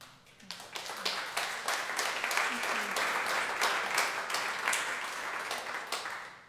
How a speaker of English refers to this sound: People never know when to clap with poetry. I sympathise.